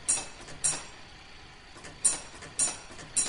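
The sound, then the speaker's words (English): A fire alarm box bell strikes out its number: two sharp metallic dings, a short pause, then three more, each bright and quickly fading over a faint mechanical background, with no talking. “It rings the amount of numbers on the box.”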